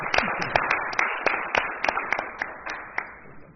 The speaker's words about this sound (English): Everybody give her a round of applause and welcome.